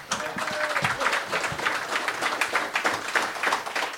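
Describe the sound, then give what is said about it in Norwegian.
A crowd applauds a guest musician for about four seconds. It is a dense wash of many hands clapping at an even, moderately loud level, with no voices standing out. “Stor applaus”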